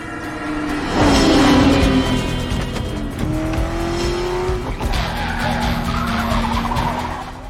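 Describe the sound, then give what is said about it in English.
Race car engines, including a Ferrari, roar loudly and continuously late in a race, pitch rising and falling as they speed past, with tires squealing and skidding over the steady engine drone. “There's one car they've got to take down, and it is this Ferrari car.”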